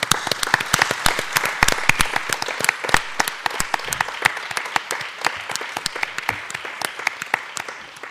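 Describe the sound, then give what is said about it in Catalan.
An audience breaks into sustained applause, many hands clapping in a dense, crackling patter that stays steady and fairly loud for several seconds, with no voices over it; at a book presentation for the 150th anniversary of El Retiro in Sitges, applauding a former president of the society. “Suposo que tots el recordeu i demanaria un aplaudiment per ell per començar aquesta presentació.”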